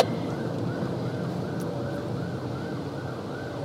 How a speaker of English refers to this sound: You're in the bike lane a little bit. Yeah, because there's an ambulance, so you're supposed to pull over.